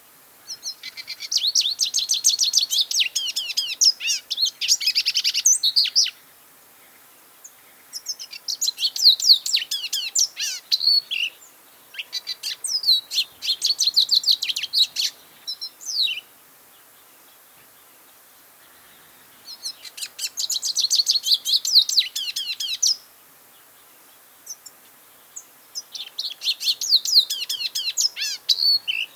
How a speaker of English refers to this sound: So our fifth bird is the lesser goldfinch. And this bird is small, beloved resident of the Southwest, the lesser goldfinch. So I want you to take a moment to find this beautiful bird in your ID guide as we play their song.